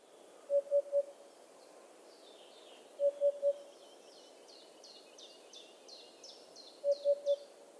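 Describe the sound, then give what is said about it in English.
A hoopoe gives its soft, hollow three-note call three times, each triplet a few seconds apart, while other birds chirp and twitter faintly in the background. “The bird's common name, hoopoe, is an onomatopoeic name in an attempt to imitate its call.”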